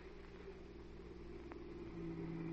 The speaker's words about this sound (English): Here comes a car in the drive.